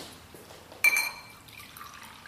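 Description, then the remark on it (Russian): Original kombucha poured into a glass: a sharp glassy clink and ring, then a soft, fizzy trickle of liquid for about a second, with no talking. “Поэтому я не только охарактеризовал продукт, но я, друзья, его сейчас разолью, покажем разлив и употребление. Вот берем, разливаем.”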